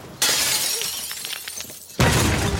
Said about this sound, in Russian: Поднимается по галерее, достает из кармана пиджака гранату и бросает в окно Гоцмана.